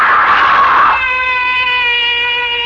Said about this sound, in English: Why am I screaming? Just a dream. I'll stop screaming.